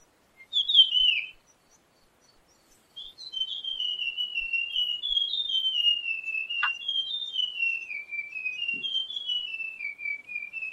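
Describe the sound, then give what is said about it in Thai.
Birdsong in the morning as the birds wake: a high, clear whistled call, one short note, a pause, then a long unbroken tone that wavers and slowly drifts lower, steady in loudness, with no voices. “ฟังเสียงนกก็กำลังตื่นเสียงสัตว์เสียงลำห้วยเย็นนี้ไม่ได้ยินแล้ว”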